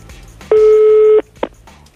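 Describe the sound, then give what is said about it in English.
A single steady telephone call tone sounds for under a second, loud and clear, followed by a brief click-like burst against a faint background hum. “So this is me calling them and then picking up their big red phone with the dial on the front, which I'm imagining they probably have.”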